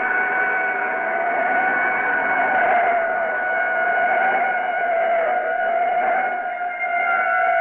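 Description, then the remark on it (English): A police siren from cops about a block behind wails steadily and loudly for the whole stretch, its high tone holding fairly even with a faint undertone of engine noise and no voices. “siren a block behind. Cops”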